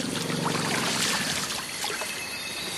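Elephants playing in mud splash muddy water, digging up the ground with their feet and trunks, in a steady, gushing rush, loud, with scattered spattering drips throughout and no voices.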